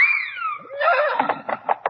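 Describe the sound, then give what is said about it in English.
A white horse whinnies loudly, a high sliding cry that drops in pitch and breaks into a series of shaky, pulsing snorts at the end. “There are your 6 dancing white horses.”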